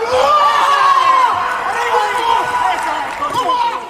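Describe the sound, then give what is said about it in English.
Spain's boxer Emmanuel Reyes lets out a loud, sustained victory scream that wavers in pitch for several seconds after a knockout win in the men's heavyweight boxing tournament, with crowd noise and cheering underneath. “Can you tell what sport this grunt and this scream is from?”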